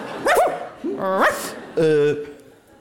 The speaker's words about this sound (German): Mein erster Reflex war gerade Sitz, weil ich dachte, es ist ein Hund im Publikum.